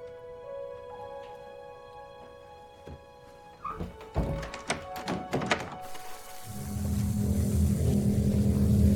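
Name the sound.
motorboat engine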